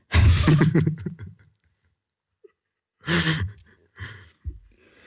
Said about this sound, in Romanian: Este căscatul ăla care vine într-o serie de 4-5 și te enervează că a mai venit încă unul. Și zici, bă, ce am? Ce-i cu mine de mai ce casc așa?